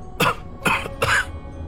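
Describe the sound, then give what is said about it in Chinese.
An old grandfather with his hands behind his back gives three short, rough coughs in quick succession, fairly loud, with brief pauses between them and no talking. “爷爷背着手咳嗽了两声，就好像是没了力气一般。”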